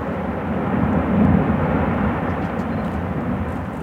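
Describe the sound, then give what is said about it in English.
A deep, continuous booming rumble of glacier ice calving into the sea at Ilulissat, Greenland, rolls on for several seconds, swelling briefly early on before settling into a steady roar, with no voices. “With each boom and crack, a bit more of Greenland's ice falls into the sea.”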